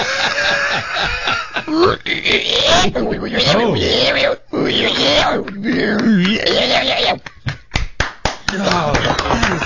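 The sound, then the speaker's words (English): A man's voice imitates a reluctant, uninterested pig being coaxed over, making wavering, moaning grunts and squeals that rise and fall in pitch, followed near the end by a few sharp claps or slaps. “Right now, here, I'll play the part of the pig just sort of not real interested.”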